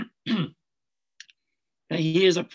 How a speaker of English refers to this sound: I have to clear my throat. You know, I may actually just end it there today because I think we are about quarter after, and I have a real serious frog in my throat here, so I have to go